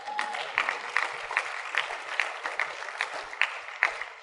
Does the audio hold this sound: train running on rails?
no